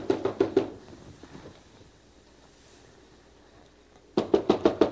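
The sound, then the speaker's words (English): A series of sharp knocks on a door by a delivery person, four quick raps at the start, then a pause with only faint background noise, then another burst of five or six firm, clear knocks. “There's somebody at the door.”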